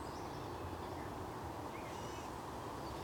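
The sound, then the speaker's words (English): A few faint, high bird calls drift over a steady low rumble of highway traffic in the background and breeze, outdoors where flowers are coming into bloom; no one speaks. “Not only with human beings, but with, as you hear, everywhere I am here, there's birds.”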